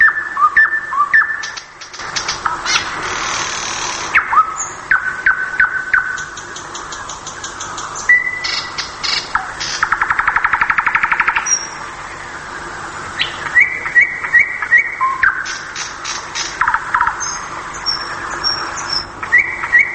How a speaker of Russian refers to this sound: Я предпочитаю соловья, чтобы песня была у него разнообразная, не резкая, нежная. Сочетание нежности, силы и глубины звука.